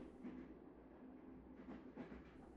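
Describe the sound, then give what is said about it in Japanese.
Steady low rumble of a moving, crowded commuter train heard from inside a carriage, with a constant hum and faint rhythmic rattles and clacks from the wheels, no voices. “あなたもこの時間の電車なんですか？一緒の電車なんてすごい偶然ですね。”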